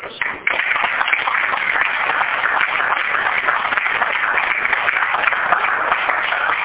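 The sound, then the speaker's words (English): Steady audience applause at a board meeting, a dense wash of many hands clapping at an even loudness for several seconds, with no clear individual claps standing out and no talking over it. “And one more applause is necessary again.”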